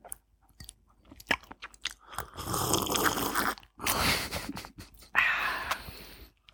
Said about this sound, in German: Darf ich den toten Fisch, der da drin schwimmt, essen? Oder ist der zur Deko da? Nee, der unterstützt das Aroma, darf sein. Man hört, wie die Gräten unter deinen Zähnen zerbrechen.